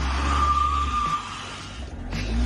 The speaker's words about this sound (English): So then the guy tries one more time. Puts it in reverse and steps on it. Oh, my God. Front wheels spinning, back wheels frozen.